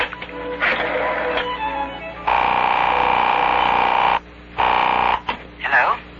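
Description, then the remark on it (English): A telephone being picked up and dialed: a long steady electronic tone, then a shorter burst of the same tone after a brief gap, ending in a warbling, wavering tone, all fairly loud. “Now, with my left hand, I'll just pick up this phone. I'll put it down and dial.”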